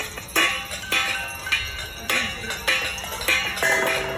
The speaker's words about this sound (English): It was from Easter Sunday, and all of the Catholic churches in Milwaukee were going to ring the bells, and they had invited Catholic parishioners to make noise along with the church bells.